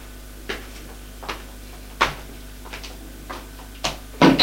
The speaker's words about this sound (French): Ouvre une porte, c'est une chambre.